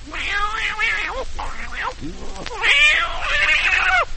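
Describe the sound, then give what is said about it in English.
Cats meow repeatedly in a string of drawn-out, wavering cries that rise and fall in pitch. The calls are fairly loud, overlapping almost continuously with only brief gaps between them. “The cats are swinging.”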